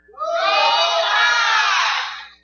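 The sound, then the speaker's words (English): A crowd loudly shouts a "Roll Tide" cheer, many voices joining in one sustained roar that rises quickly, holds for about two seconds, then fades out. “All right, Roll Tide.”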